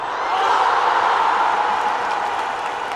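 A large crowd boos loudly and continuously, a dense, sustained wall of low jeering voices that holds steady for a few seconds with no clear talk over it.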